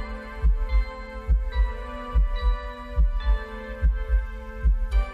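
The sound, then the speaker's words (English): A steady, deep human heartbeat thumps in regular double pulses beneath soft, sustained traditional lullaby music with a gentle hum, calm and lulling throughout with no voices. “He originally wanted to create music to help crying babies and developed a strategy of adding a human heartbeat sound to traditional lullabies.”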